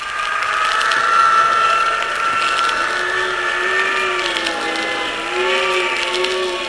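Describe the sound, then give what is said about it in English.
A wind tunnel blowing at full force during a test of a full-sized plane: a steady, powerful roar of rushing air with a droning motor hum underneath, its tones slowly wavering and rising in pitch over several seconds, loud and continuous with no voices. “It's a full-sized plane, and yet that wind is tossing it around like it was a cork almost.”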